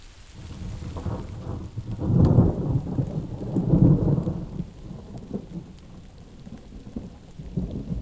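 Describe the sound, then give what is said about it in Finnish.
Low, rolling thunder of an approaching thunderstorm rumbles in two swelling waves over a steady wash of rain, with scattered drops pattering; no voices are heard. “Onkohan kriitikon mainitsema paukkuefekti ollut Fanny Kurbergilla mielessä hänen maalatessaan 4 vuotta myöhemmin teosta Maisema Viipurin tienoilta lähestyvä ukonilma?”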